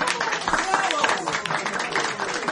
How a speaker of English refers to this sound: The curtain is down on the final act of an exciting opening night performance in the Little Theater off Times Square. Listen to the applause. It's another Broadway hit.